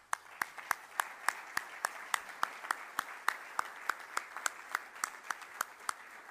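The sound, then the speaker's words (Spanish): An audience applauds in thanks for the work of the woman presenting the event, with sharp claps landing in a steady rhythm of about three per second over a continuous hiss of scattered clapping. No voices are heard. “Les pido, por favor, un aplauso de agradecimiento a su extraordinaria labor.”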